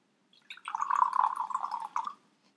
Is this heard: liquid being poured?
yes